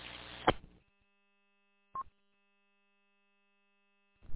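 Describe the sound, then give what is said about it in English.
A single very short burst of mid-pitched Morse tone, the letter R, sent by a station checking in to an amateur radio net, sounds once between bursts of radio static and hiss, with no talking. “Okay, I heard the Morse code letter R,”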